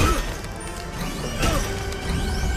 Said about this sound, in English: The robot spots the dial inside the kiosk, then punches through the ice to reach it.